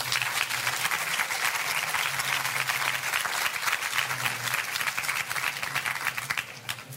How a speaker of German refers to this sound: Ihr Applaus für Nino Haratischvili.